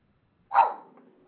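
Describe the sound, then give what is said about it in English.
A single sharp bark from a caller's dog, heard over a phone line during a radio call-in, thin and tinny, fading quickly into a soft trailing tail after a moment of silence. “I hear the dog.”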